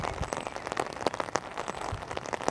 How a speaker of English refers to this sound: Oh, this rain.